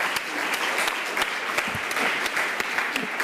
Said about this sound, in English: And of course, I realized last night I should have had him standing up here receiving the applause. So let's do it again.